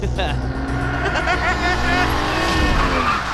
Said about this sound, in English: Well then, watch this! He hits the shoulder, guns it.